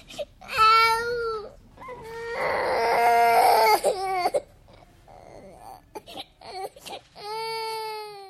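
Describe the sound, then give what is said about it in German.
A girl whimpers and cries after vaulting over a gym box and crashing onto the mat, in high, wavering wails, with a louder strained sob in the middle, short choked gasps and sniffles, then a final drawn-out whine. “Sie jammerte.”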